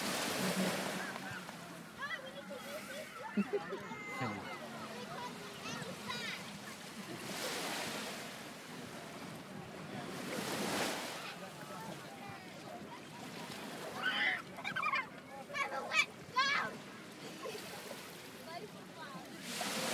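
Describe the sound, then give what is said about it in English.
Ocean waves break on the shore in broad, rushing washes, a few surges swelling and fading over a steady background hiss of surf, with occasional splashy, crackling bursts. “Just capture some more waves. Some ambiance.”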